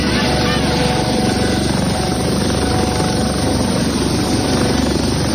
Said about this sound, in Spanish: Así suena el helicóptero de aduana sobrevolando la playa.